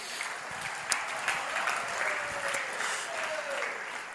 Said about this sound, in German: Ein Applaus dafür.